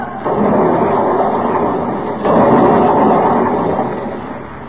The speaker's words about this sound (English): We didn't have a chance to launch the small boats. The Miramar hit the rocks and broke into two instantly.